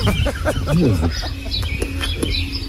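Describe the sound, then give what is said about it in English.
A pet duck gives a run of short, nasal calls and quacks while being cuddled, repeating in quick bursts, with a human voice faintly audible alongside. “Say hello, Charlie. Good don't be shy. You gorgeous duck.”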